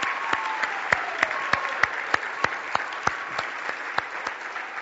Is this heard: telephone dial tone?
no